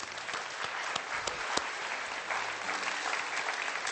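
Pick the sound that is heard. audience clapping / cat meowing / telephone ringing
audience clapping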